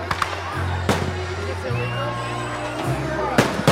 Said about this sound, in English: Fireworks and music highlighting a party in Princeton, Texas.